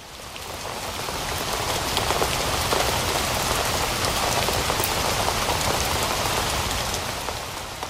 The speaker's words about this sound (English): It's not going to stop raining until March.